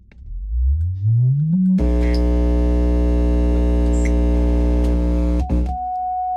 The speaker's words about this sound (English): Turn down the amp. There it is. Just doesn't get any better than that. You know? And all it is just a sine wave. You can pick the range.